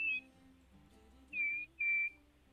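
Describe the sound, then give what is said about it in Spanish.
Thin, high whistles of air escaping an inflated balloon whose mouth is squeezed to narrow the outlet: a short one at the start, then two longer steady squeals close together, fairly loud, with no talking. “Y al estrecharse la salida de aire provoca ese silbidito.”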